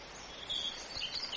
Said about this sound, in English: Shh. Listen. It's a nightingale. A very, very rare sound. You hardly ever hear one nowadays.